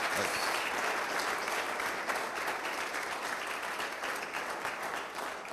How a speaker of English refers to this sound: Oh, clap for this man. Clap for this. Palmas para esse homem.